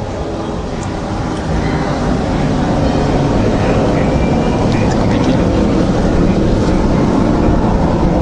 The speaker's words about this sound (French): Bon, j'attends que ça passe. Sinon ça va pas être mieux. C'est comme dans les films. Il faut attendre les avions.